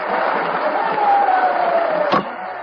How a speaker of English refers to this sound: The President now standing before the microphones and receiving the applause of the members of both houses.